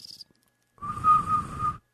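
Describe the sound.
A person whistles an imitation of a bird trill: a brief high note, a short pause, then about a second of sustained, rapidly fluttering whistle with audible breathy noise underneath.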